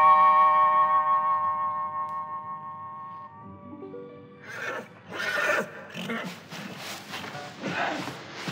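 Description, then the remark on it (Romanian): A horse in royal stables gives a long, loud whinny with a sustained tremolo that slowly fades, followed by a voice speaking over rustling and shuffling noises. “intră în grajdurile împărătești și îți alege cal pe măsura îndrăznelii tale.”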